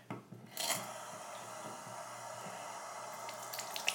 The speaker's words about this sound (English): I'll just go run the shower.